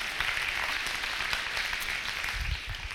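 An audience applauds steadily, a dense wash of many hands clapping at an even, sustained level for the whole stretch, with no voices rising above it.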